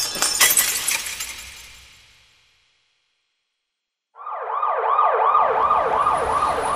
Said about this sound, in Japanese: 次に目をつけたのはブロードウェイのショーウィンドウでした。彼は道端の石を拾い上げると、勢いよくガラスに叩きつけました。